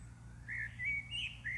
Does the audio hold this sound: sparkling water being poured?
no